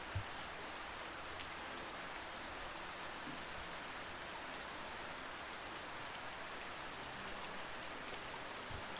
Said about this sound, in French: La sensation si agréable d'être au sec et de regarder la pluie tomber et nettoyer la ville.